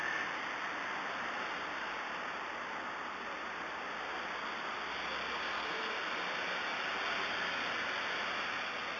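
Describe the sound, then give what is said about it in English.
Morning street traffic in North London at 9:25 am makes a steady, unbroken wash of hiss and rumble, much like surf, with no distinct horns or voices and a thin high whine running throughout. “London life at 9:25 in the morning. In North London, lovely.”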